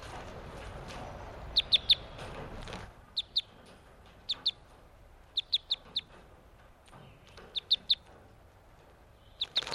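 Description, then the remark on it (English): Newly captured crossbills, caught on May 31st, flutter and give sharp, high chip calls in quick clusters of two to four, repeated throughout over a low rustling background that is louder at the start. No one speaks. “These are the new captives I caught today, May 31st.”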